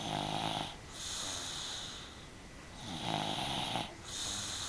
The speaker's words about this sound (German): So gut, dass die ersten Kleinkinder schon nach 10 Minuten friedlich schnarchen und sogar die Größeren bei leise säuselnder Hintergrundmusik nur noch flüstern.